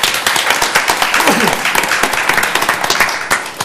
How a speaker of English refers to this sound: I thank you for your service, and if we could suspend the rules, I think another round of applause is in order.